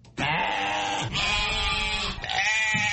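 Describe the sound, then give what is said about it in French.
Sheep bleating loudly at a sheep sale point in Dakar a few days before the Tabaski festival, several long wavering cries overlapping one after another with no gaps, the way a crowded livestock pen sounds. “À Dakar, les points de vente de moutons ne désemplissent pas.”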